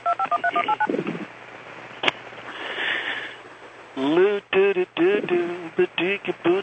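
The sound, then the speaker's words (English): A quick run of touch-tone dialing beeps as a telephone number is dialed for a sales call, paired steady tones in a brisk rhythm, followed by a click, a stretch of line hiss, and then a voice talking over a phone line. “And now, who are you calling? Just any number.”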